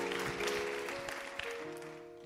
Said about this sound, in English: Come on, give the Lord a hand clap of praise this evening, this morning, afternoon, should I say.